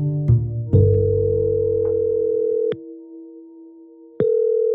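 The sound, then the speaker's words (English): A phone line's ringing tone on an outgoing call to Mickey Rooney's daughter: a steady electronic hum with sharp clicks, a quieter stretch, then the tone resumes loudly. Clear, with no voices. “And so, I phone up”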